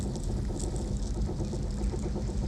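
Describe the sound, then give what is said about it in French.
A flock of domestic turkeys kept in a mining town gobbling and clucking in a busy, overlapping chorus, steady from start to finish, with no voices. “Dans sa cité minière, ses animaux domestiques sont des dindes, des chèvres et des cochons.”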